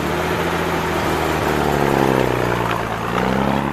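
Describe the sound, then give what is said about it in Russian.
A truck that has taken away the household belongings rumbles loudly, its steady low drone shifting slightly in pitch as the vehicle pulls away, with no voices present. “Грузовик забрал вещи.”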